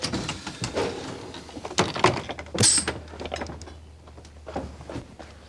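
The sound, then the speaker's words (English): The doors of trolley number 24, built in 1949, slide open with a series of mechanical clunks and rattles and a brief high squeal partway through, over a steady low hum. “We'll just open the doors.”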